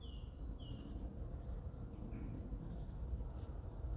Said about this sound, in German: Also bin jetzt gerade in den Wald reingekommen. Horcht einmal die Vögel.